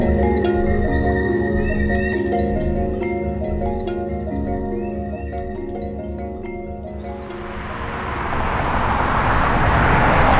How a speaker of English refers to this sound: We're now leaving Croxbottom. We've come out of the nature reserve. As you can hear the sound of the traffic going by, we're back onto the Artcliffe Way now, and we'll be heading up towards Novers Hill Lane, back up to the media centre.